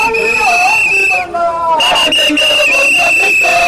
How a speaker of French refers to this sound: Des coups de sifflet accompagnés des chants exigeant le départ du directeur général actuel ont accompagné ces agents de l'OCC face à une porte d'entrée barricadée par les éléments de la police.